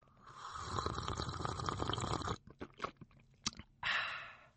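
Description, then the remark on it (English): A long slurping sip of coffee from a cup, followed by a few soft clicks and a swallow, then a brief second slurp. No one speaks. “A quick sip of my coffee just to get me in the mood for today's programme.”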